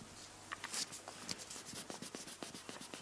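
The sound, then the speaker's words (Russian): Rapid back-and-forth scratchy rubbing of an eraser erasing pencil marks on a sheet of paper, fairly quiet, with short uneven strokes repeating steadily and no voices. “А потом сотру.”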